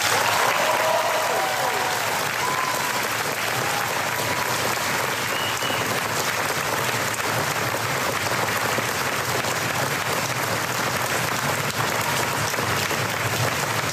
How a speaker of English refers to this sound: Please join me in a round of applause for these very special cast members.